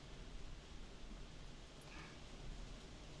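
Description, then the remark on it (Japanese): Soft, steady rain hisses continuously, a faint and even wash of falling drops with no voices or other distinct sounds; the rain is expected to last until the next morning. “雨だね、お兄ちゃん。”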